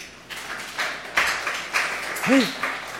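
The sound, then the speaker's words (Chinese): A few scattered, half-hearted handclaps from a small class group, clapping for a student who retold the story of Cain and Abel, landing irregularly about every half second, with a brief voice calling out near the end. “是有人嫉妒吗？怎么拍手拍这样子呢？”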